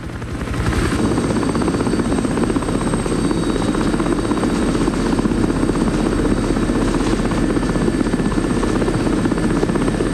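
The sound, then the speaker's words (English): A helicopter searching over the snow-covered Rocky Mountains and miles of desolate canyon, its rotor thumping in a steady rapid pulse over a loud, continuous engine whine that fills the whole stretch without pause. “The helicopter continues to scour miles and miles of desolate canyon.”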